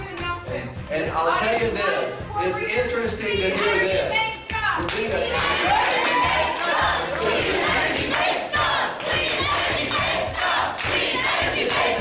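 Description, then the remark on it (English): A record-breaking climate protest crowd of over 100,000 people marching on the streets of Copenhagen chants and shouts in unison, a loud, dense wall of voices filling the scene continuously with rhythmic yelling and scattered cries throughout. “This was just a prelude for the record-breaking crowds that marched on the streets of Copenhagen on Saturday.”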